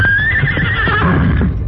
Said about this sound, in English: As the Lone Ranger and Tonto waited at the top of the rise, Silver could sense there was danger ahead and whinnied his defiance.